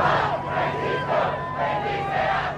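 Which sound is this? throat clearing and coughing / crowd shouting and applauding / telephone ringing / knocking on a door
crowd shouting and applauding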